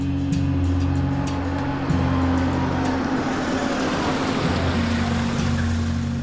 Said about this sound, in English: April 20th, 1968. A car pulls up to Pannone's Meat Market.